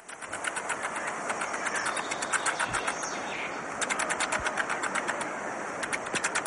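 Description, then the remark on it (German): Jumping spider vibration signals: rapid, rhythmic bursts of dry buzzing and clicking pulses over a steady hiss, pausing briefly before resuming at a fairly even loudness. “Hören wir mal rein, weil die Spinnen sind bisher überhaupt noch nicht zu Wort gekommen, es wurde Zeit.”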